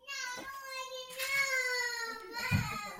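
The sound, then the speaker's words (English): A toddler wails in a loud, drawn-out cry during a meltdown, one long continuous shriek that wavers and slowly sags in pitch, with a ragged gasp near the end, unaccompanied by talk. “We all know the meltdowns.”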